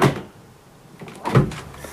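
A refrigerator door is opened and closed twice: two soft thuds, one at the start and another about a second later, each with a brief muffled rattle, with quiet room tone between.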